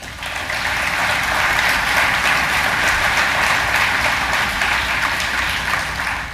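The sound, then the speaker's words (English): Steady, dense clapping from a large crowd at Oshkosh fills the space for several seconds, a broad even wash of applause outdoors, with no voices standing out. “Give yourself a big round of applause.”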